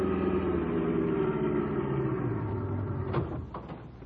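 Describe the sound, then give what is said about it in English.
A car engine drones steadily with a low, throbbing hum as the car is driven to old Mayor Hoskins' ice house down the road, then eases off near the end as a few faint clicks and knocks sound. “We jumped into a car and drove over there.”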